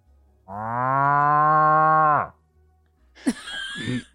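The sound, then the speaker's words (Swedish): A person imitates a cow with one long, loud, drawn-out moo lasting about two seconds that drops off at the end, followed by a few short, breathy vocal noises. “Nu ska jag låta som en ko.”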